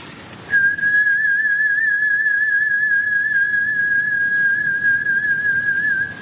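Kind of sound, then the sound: human body sound, human whistling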